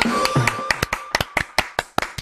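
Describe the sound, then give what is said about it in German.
A short burst of hand clapping: sharp, crisp claps at a quick, fairly steady pace, around a dozen in two seconds, with no voices over them. “Hey, Applaus.”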